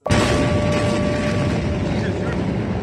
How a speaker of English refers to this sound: On this Tuesday night, an enormous explosion blasts through Beirut. Horrific disaster. Rubble everywhere. Buildings blasted open.